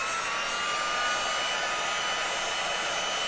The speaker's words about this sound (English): So I'll put just a smattering of the clear encaustic on as a base layer. And then I blast it with the heat gun because I have to melt it. I'll rev it up on high.